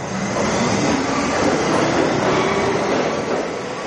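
A New York City subway train roars past through an underground station, a steady, loud rumble of wheels and rushing noise with a faint metallic whine, sustained without a break and with no voices.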